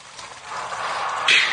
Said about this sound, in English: Sounds like a brook. Running down a hillside.